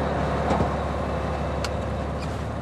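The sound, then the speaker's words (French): A snow groomer rumbles steadily as it drives out of its hangar at the bottom of the ski slopes at 5 a.m., its heavy engine drone constant, with a few brief metallic clicks and clanks breaking through the low roar. “Il est 5h du matin et la dameuse est en train de sortir du hangar au bas des pistes. Je laisse marcher sur les lames de la chenille.”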